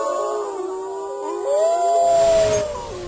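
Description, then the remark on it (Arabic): Several wolves howl together in long, wavering, overlapping tones that rise and fall, forming a loud chorus with no talking over it. “وهناك في إفريقيا رأيت الظلم والطغيان والوحشة، رأيت كثيرا من بني الإنسان في حيوان لا يكاد الإنسان أن يفارقه، إنه الذئب، رمز الظلم والطغيان والشجاعة الطائشة.”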